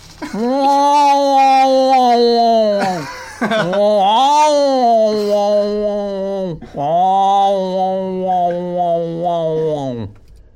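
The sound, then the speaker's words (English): A human voice imitates the wailing of the speaker's other cat, Tigger, with three long, loud, drawn-out yowls, each wavering in pitch and separated by brief pauses. “That's basically the sound our other cat makes.”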